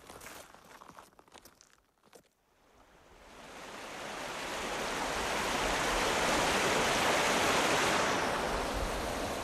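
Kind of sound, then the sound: nature, flowing water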